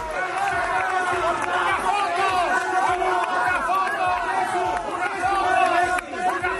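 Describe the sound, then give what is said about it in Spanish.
A dense crowd cheers and shouts continuously as FC Barcelona president Laporta leaves the team hotel after Barça's 0-4 win over Real Madrid, many voices overlapping in a loud, steady roar of excited calls and chatter with no pauses. “Esto que oyen es la salida de Jan Laporta del hotel del equipo blaugrana”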